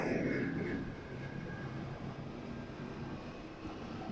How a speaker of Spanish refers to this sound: Parece que en el momento que estoy grabando esto, pues hay un tráfico grande de aviones. Por lo regular no escucho tanto cuando estoy aquí en el trabajo, pero así que disculpen tanto avión que me está pasando por encima.